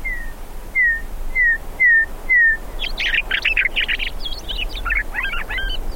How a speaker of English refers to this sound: You haven't heard a bird till you've heard a meadowlark. And you, once you hear that, you never forget that.